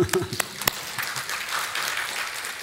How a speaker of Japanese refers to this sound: 金曜日も来てるし、すごい、拍手。